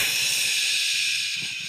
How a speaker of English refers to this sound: She hears the shower turn on.